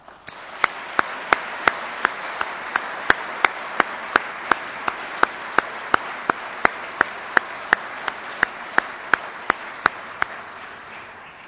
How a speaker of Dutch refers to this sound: Omdat hij hart heeft voor de zaak, een enorm applaus voor deze burgemeester.